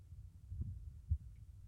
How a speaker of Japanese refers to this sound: 鼓動の音が聞こえる。